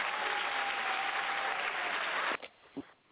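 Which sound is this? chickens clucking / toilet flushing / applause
applause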